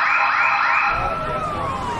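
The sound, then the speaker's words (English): A burglar alarm wails loudly in an empty store, its electronic tone sweeping up and down in quick repeating cycles before sliding lower. No one speaks. “The alarm rings through the empty store.”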